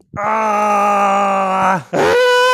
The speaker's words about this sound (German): Also mir ist immer noch schreien zumute, muss ich ehrlich sagen. Ja, wir müssen schreien